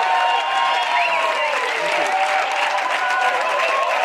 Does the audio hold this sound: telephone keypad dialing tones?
no